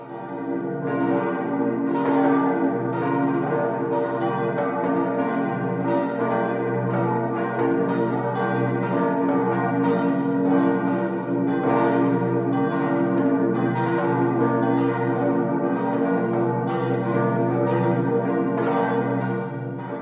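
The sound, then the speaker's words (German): Several church bells peal together continuously, ringing in Christmas, a dense, overlapping wash of ringing tones that stays loud and steady throughout, with no voices present. “Glocken läuteten die Weihnacht ein.”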